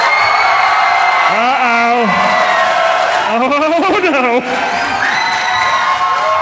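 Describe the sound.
An audience applauds and cheers loudly and steadily throughout as a vote by applause for a contestant, measured on an applause meter, with bursts of shouting and whooping voices rising over the dense clapping, and a voice briefly calls out.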